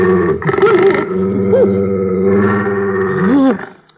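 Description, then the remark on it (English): A female bloodhound called Señor Satan growls low and loud, one continuous rumbling snarl lasting several seconds with a wavering, rising-and-falling pitch before it cuts off. “No, she's what you call a hound of blood.”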